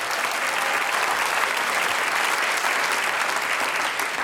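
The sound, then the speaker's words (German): Sustained applause from an audience welcoming a four-part vocal group, a dense steady wash of many hands clapping at once, fairly loud and continuous throughout with no voices rising above it. “Mit einem großen Applaus, …”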